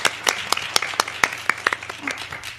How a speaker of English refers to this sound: Hello. Oh, sorry, we got applause. Yeah.